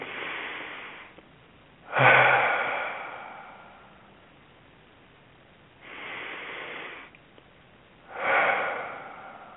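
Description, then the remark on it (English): Slow, deep breaths drawn in and let out during a guided meditation, about four long airy swells at a relaxed, even pace, with no talking. “Breathing in and breathing out deeply, releasing any tension in your mind, body, or spirit.”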